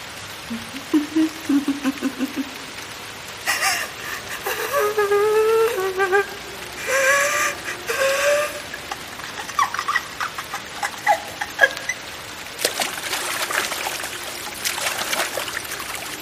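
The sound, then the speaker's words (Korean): Steady rain hisses throughout at moderate volume, with scattered drips and splashes. Several short, wavering whine-like calls rise above it in the first half. “빗소리 사이로 퍼지는 자신의 목소리가 턱없이 작았다.”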